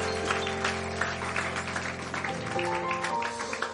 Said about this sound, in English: Give the Lord another hand clap tonight.